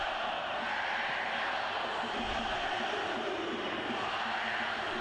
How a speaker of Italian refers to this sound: Il volume dallo stadio non è neanche tanto alto, cioè semplicemente stanno urlando. Sì, infatti, o arriva l'audio alto di suo, o stanno urlando.